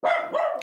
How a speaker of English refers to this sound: Oh, was that you? Yeah, that's my dog.